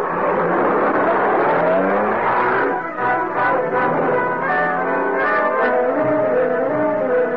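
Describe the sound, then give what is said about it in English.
Shevlin's car engine hums steadily and loudly for several seconds in the dark, its tone shifting and rising in pitch as the vehicle approaches, with no voices over it. “There's a car.”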